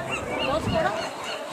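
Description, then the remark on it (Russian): Pacific seagulls cry on a Saturday evening at 18:47 at low tide, in a dense, overlapping chorus of wavering squawks that carry on steadily over a constant outdoor background noise. “Наши тихоокеанские птички. Зовут чайка.”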